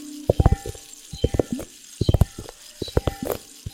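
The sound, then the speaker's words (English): Liquid sloshing inside small globes in quick, uneven bursts of gurgling, bubbly splashes, repeated several times over a few seconds, fairly clear with brief pauses between shakes. “Liquid. Globes.”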